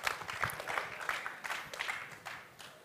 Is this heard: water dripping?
no